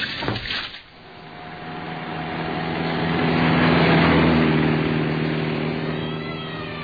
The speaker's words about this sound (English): On the gas, but the other car was gaining on me.